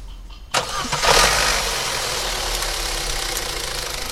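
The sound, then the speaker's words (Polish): A worn car engine, already overhauled at least twice and leaking oil, cranks and catches with a sudden burst, revs briefly, then settles into a steady, rough, rattling idle with no talking. “No, teraz poszło. No to odpalamy.”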